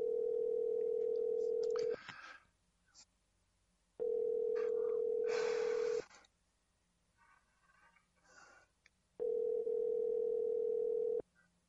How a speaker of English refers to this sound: I left this in there for effect, by the way. Why is the phone ringing?